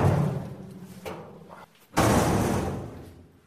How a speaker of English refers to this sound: The heavy door shuts tight.